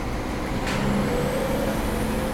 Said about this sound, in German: Hier nerven gerade mal wieder die vielen Busse mit ihren scheiß Diesel gestanden.